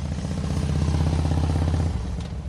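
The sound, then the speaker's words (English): A gasoline-fueled Harley motorcycle with loud exhaust pipes idles and revs, its deep, throbbing exhaust rumble pulsing steadily, easing slightly near the end. “This is the gasoline-fueled sound that many Harley riders covet and even add loud exhaust pipes to amp it up.”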